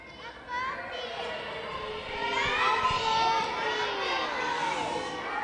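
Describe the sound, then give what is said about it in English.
A crowd of children in a gym in Kotzebue bursts into excited shouts and squeals as a Furby, the year 2000's most popular toy, is pulled from a time capsule, many high voices overlapping, swelling louder midway before settling into a steady, noisy clamor. “but it's the year 2000's most popular toy that receives a huge reaction from the crowd.”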